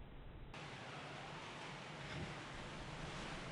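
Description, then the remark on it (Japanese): A strong sea wind roars steadily at a cliff edge on the grounds of the Atami base, where its wind force is being measured: a dense, continuous rush of air with a faint surf-like wash beneath it, swelling slightly midway and never letting up. “だから福岡は断崖となっている強烈な海風が吹くこの熱海基地の敷地の外れまで来て、その風力を測定していたのだ。”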